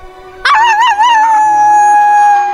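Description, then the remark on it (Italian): A dog lets out a single long, loud howl, wavering at first and then settling into a steady sustained tone that holds for a couple of seconds, with no voices. “Ma ecco, a un certo punto un ululato canino rompe il silenzio.”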